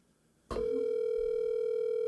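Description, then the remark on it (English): A sharp click, then a steady, loud electronic phone tone hums on without a break, as on an outgoing call to someone in Tennessee waiting to ring through. No one speaks. “If he doesn't answer, I'm going to let his phone number be out.”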